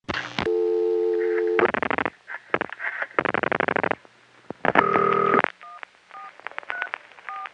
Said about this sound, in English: In this next call, you can hear another caller's touch tones during the ring and voice during the fast busy signal.